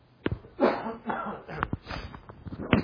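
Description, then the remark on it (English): Several rough, muffled coughs burst out at uneven intervals, moderately loud, with a few sharper hacks near the end. “You'd ever think we'd be afraid to sniff and cough and do anything today, but we are.”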